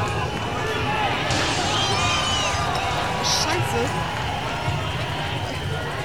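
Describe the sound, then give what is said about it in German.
A panicked crowd runs from water cannons coming from the Jungfernstieg and Neuer Wall, a dense continuous clatter of running footsteps mixed with shouting and general commotion, loud throughout. “Ich weiß gar nicht, wohin die Leute jetzt rennen.”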